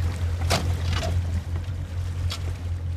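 A motorboat towing a 64-foot net to sample fish, its engine droning steadily while water swishes and splashes against the hull in a few brief bursts, with a constant wash of noise throughout.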